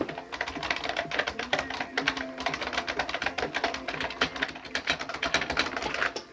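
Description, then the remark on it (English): Rapid, continuous clacking of mechanical keyboard keys being randomly mashed, recorded with a microphone placed right by the keyboard, a dense irregular patter of crisp clicks with no voices. “It's really, really nice, and it makes a very nice clacka clacka clacka sound.”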